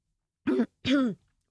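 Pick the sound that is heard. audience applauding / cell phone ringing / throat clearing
throat clearing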